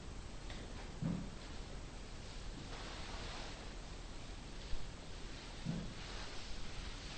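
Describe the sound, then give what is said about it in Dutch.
Soft, steady rush of flowing water, continuous and fairly faint throughout, with a couple of brief low thumps and no voices. “De water dat stroomt.”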